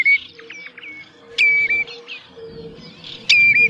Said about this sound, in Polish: Na przedwiośniu, na nadrzecznych rozlewiskach króluje fletowy głos kontaktowy Krwawo Dzioba. Jest on melodyjny, dwusylabowy, z wyraźnym akcentem na pierwszą sylabę.